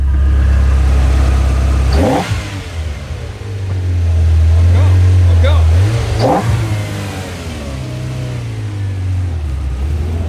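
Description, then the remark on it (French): A Ferrari sports car engine revs loudly, a deep rumble climbing in pitch through several sharp throttle blips, then settling back to a steady idle. “What kind of car is it? Ferrari. Vous pouvez la faire rum rum.”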